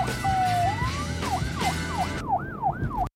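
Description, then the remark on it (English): An emergency siren wails in a slow rising sweep, then switches to a quicker repeating up-and-down yelp, loud and steady over a low background rumble of traffic. “There's the sirens.”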